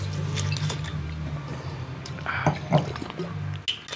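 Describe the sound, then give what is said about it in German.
Water is poured into a glass, a quiet trickle with a few brighter splashes and drips over a steady low hum, no one speaking. “Ich mache noch ein Stück Wasser rein.”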